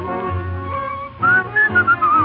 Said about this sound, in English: I'm whistling, looking at that lovely moon.